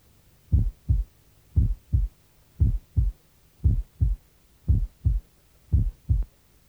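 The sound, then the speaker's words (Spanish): Heart sounds heard at the apex through a stethoscope bell pressed firmly: about seven steady lub-dub pairs of low, muffled thumps, with a faint hum between beats and no talking. “Está escuchando el corazón en el ápex.”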